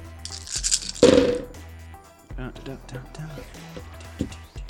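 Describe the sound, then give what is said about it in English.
A brief clatter of dice tumbling across a tabletop in the first second or so, followed by people talking quietly as the rattle dies away. “Some of these dice are really hard to read.”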